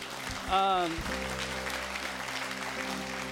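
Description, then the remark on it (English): An audience claps steadily for a few seconds, a dense, even patter of many hands. A single voice calls out briefly early on, and a low sustained tone hums underneath. “In this next moment, you can clap.”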